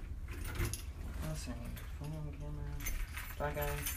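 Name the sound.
keys jangling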